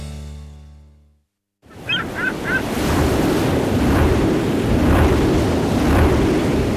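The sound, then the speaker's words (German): After a brief fade and a moment of silence, steady wind roars across an open microphone over the wash of sea waves at an offshore wind farm in the Baltic Sea, with a few faint high bird-like chirps early on. “So hört es sich an, wenn die NBW Wind in Energie verwandelt.”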